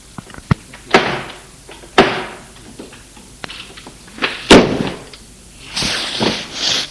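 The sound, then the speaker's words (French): An apartment door bursts open after a run of sharp wooden cracks and heavy thuds at irregular intervals as a man strikes it with a kitchen knife, followed by a rougher scraping, creaking sound as it swings. No one speaks. “Porte cède, elle s'ouvre.”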